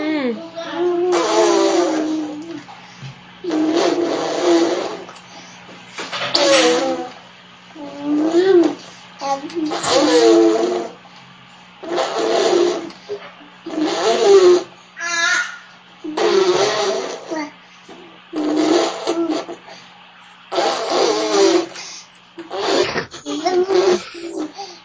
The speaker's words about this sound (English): she's going to show us what her mother described on YouTube as her major talent. Which is blowing spit bubbles